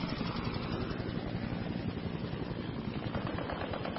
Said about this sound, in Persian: داخل هلیکوپتر صدای ملخ‌های قدرتمند شنوک همه صداهای آدم‌ها رو بلعیده بود.